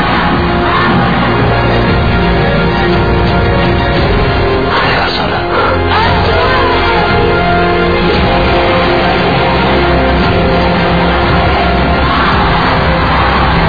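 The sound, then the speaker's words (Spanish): A large protest crowd shouts and chants continuously, a dense, loud roar of many voices with occasional higher yells rising above the steady din. “Escuchen, porque esos gritos no van a parar.”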